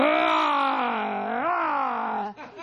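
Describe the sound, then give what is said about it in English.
A voice imitates growling and snarling: one long, loud, moaning tone that bends upward in pitch partway through, then breaks into a short rough, breathy rasp at the end. “Growling and snarling.”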